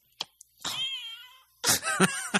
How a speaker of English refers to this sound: You open the box and it meows at you.